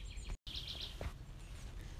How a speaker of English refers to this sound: I hope the birds are not too loud, but probably not.